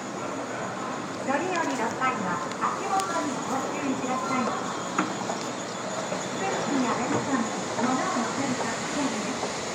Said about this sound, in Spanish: Ahora vamos a coger un Shinkansen, que son los trenes bala, que hay de diferentes tipos. Unos paran en menos estaciones, otros en más.